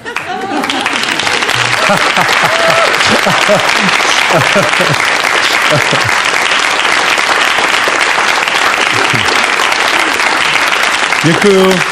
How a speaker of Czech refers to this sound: Tak čo ste tleskali?